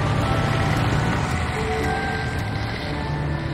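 vehicle, car driving away

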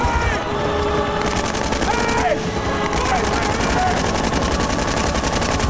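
sound effect, rifle gunfire

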